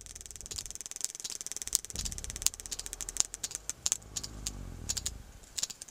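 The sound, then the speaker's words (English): Sperm whale clicks rattle out in quick, irregular bursts of sharp, crisp taps, moderately loud, over a steady low underwater rumble with no voices present, as the whale removes black cod from a fishing line. “That clicking is coming from a sperm whale as it removes black cod from a fishing line.”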